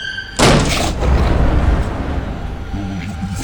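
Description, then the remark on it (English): A sudden, loud crash of thunder bursts in after a brief quiet moment as the doors of St. Mary's Church in Bungay, Suffolk, England, blow open, then rolls on as a deep, rumbling roar that slowly fades over the next few seconds. “That is, until, with a crash of thunder, the doors of St. Mary's Church located in Bungay, Suffolk, England, blew open.”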